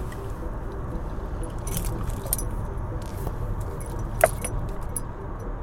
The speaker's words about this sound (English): So I jump in the car, try to get there in time.